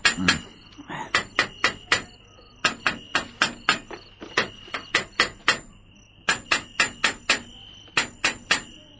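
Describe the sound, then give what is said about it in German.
A hammer taps on the metal bars of a gorilla cage to check that they are sound, in quick bursts of three to five sharp, ringing strikes, pausing between groups; the clanks are clear, with no voices. “Ich will wissen, ob die anderen Stäbe in Ordnung sind, sonst bricht der Gorilla sofort wieder aus, wenn er morgen in diesen Käfig kommt.”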